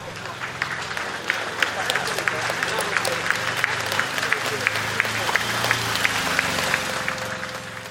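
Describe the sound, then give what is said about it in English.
A crowd in an Edinburgh street, Scotland, applauds steadily and grows louder. Dense clapping, with sharp individual claps popping out over a continuous low rumble of voices and movement, is sustained without pause throughout. “And once in Edinburgh, the applause became louder.”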